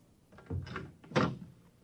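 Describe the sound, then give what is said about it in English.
An office door in a deserted skyscraper creaks and clunks open, two short scraping, knocking bursts about half a second apart, with nobody speaking. “Suddenly, I was in front of a door that read, Andrew C. Rednick, Public Analyst. Grin and come in.”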